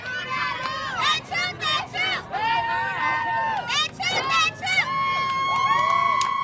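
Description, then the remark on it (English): A small crowd of about 50 school football fans cheers and shouts at a school football game where their team, the Jaguars, leads Sophie B. Wright 20-6. Many high, overlapping voices rise and fall in bursts, with a sustained loud yell swelling at the end over steady background noise. “The school's fans, about 50 strong now, begin to cheer.”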